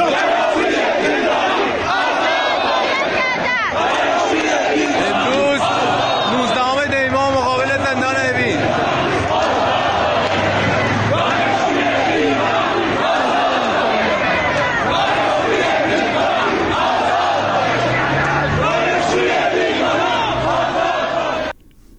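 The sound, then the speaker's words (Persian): A large protest crowd gathered in front of Evin Prison, protesting the detention of dervishes, shouts and chants together, a dense, continuous roar of many voices with rising cries and overlapping yells throughout, loud and steady for over twenty seconds. “به تعدادی از متحسنان زندان جلوی زندان اوین که به این بازداشت این دراویش معترض بودن بازداشت شدن و مورد ضرب و شتم با سنگ و باتوم قرار گرفتن که بخش هایی از تجمعی که در مقابل زندان اوین شکل گرفته را صداش رو میشنویم.”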